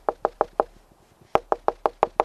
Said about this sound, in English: Woodpeckers want to live inside Tom Winowski's house. There's a hole, and when you're in the house, here's what you hear. You're in the house, and you hear this.